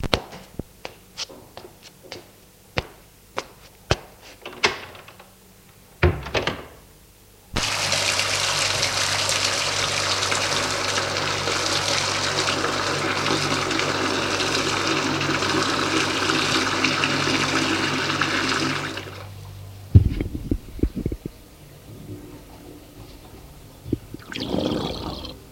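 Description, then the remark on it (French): A shower runs in a steady, loud hiss of spray for about twelve seconds, preceded by a series of small clicks and taps and followed by a few knocks and bumps. “Après avoir pris sa douche, il va dans la cuisine prendre son petit déjeuner, en évitant de ne pas trop faire de bruit, car ses parents dorment encore.”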